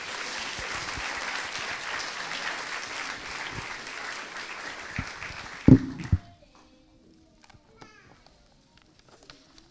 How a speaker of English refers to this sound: Let's give him a round of applause as he comes.